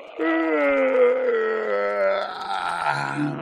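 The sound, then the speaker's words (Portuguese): A person's voice imitates an alligator's long, drawn-out yawn, a sustained groaning moan with steady tone that rises slightly and trails off, fairly loud, with no other sounds. “De repente, o jacaré deu um bocejo.”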